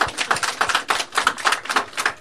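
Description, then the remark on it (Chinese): An audience claps together, a steady run of quick, crisp hand claps at an even rhythm, moderately loud and continuous for a couple of seconds with no voices over it. “好，我们家姊妹说的很好，给我们姊妹来一个掌声。”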